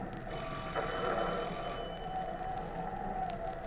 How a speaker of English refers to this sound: We stood on the porch and rang the bell.